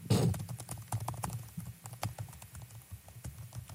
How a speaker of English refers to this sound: Wait, can we listen to the typing for a second? Oh, my gosh.